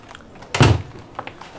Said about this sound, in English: Close the door.